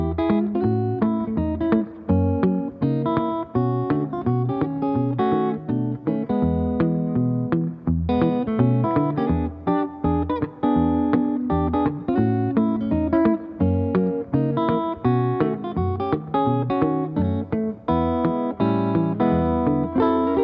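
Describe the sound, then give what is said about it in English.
An electric guitar plays a quick thumb-picked lick through a slapback echo delay, each plucked note trailed by a short echo that gives a bouncing, doubled feel; steady and fairly loud with no voices. “and also a little bit of a slap back echo delay on there as well, where when you hit the thumb pick lick instead of just bare like it is right now, you'll kind of get a doom-dick-a-doom-dick, little bounce back echo like that from the delay in it.”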